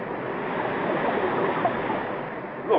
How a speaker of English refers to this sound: Water. We're in an underground ocean. Another sea beneath the Earth.